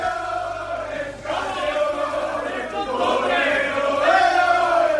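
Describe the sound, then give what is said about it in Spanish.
A large crowd of FC Barcelona fans chants 'campeones' in unison, celebrating the club's 25th league title, a loud, sustained wall of voices repeating a drawn-out, rising and falling melodic call across the whole stretch. “desde las 10:30 de la noche de ayer solo se escucha este grito entre la afición barcelonista.”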